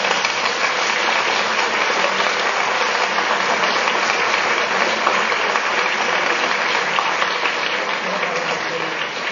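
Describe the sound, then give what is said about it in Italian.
A crowd applauds steadily for about nine seconds, a dense, even wash of many hands clapping at once, fairly loud, with no one speaking over it, as an audience applauds a child being introduced while parents stand with their children. “Un applauso.”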